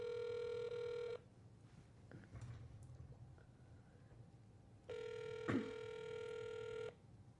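Two long electronic ringback tones sound as an outgoing phone call to a recruiter at the firm JLL rings, separated by a few seconds of quiet background noise with faint shuffling; no one speaks.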